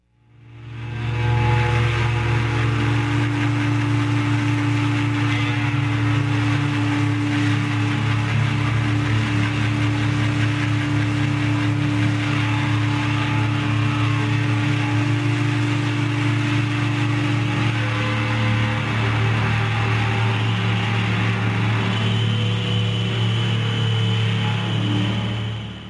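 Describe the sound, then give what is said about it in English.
A guitar amplifier blares a loud, continuous rumbling drone that sounds like an idling tractor engine, with steady low humming tones sustained throughout and no voices. “making his amplifier sound like a tractor.”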